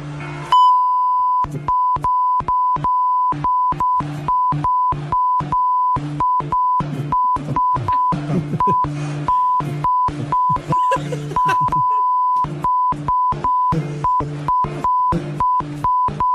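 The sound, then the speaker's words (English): A steady mid-pitched censor bleep tone fires again and again in rapid, uneven bursts, bleeping out a man's swearing so that only brief fragments of talking show through between the loud beeps. “Sounds like an SOS call he's putting out there when you beep them all like that.”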